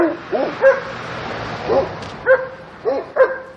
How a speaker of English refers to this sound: Oh, shut up. I'm going to stop until I get by this dog. Gosh. Hush, dog.